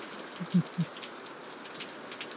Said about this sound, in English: Ah, oh, it's nice. I always have to report on rain sounds. See, in Southern California, it doesn't rain that often. So when it does, you just have to listen to it. Yeah, it just started raining, and it is 11:29 a.m.